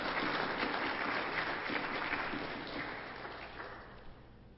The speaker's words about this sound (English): And another round of applause for Chris for being here with us today.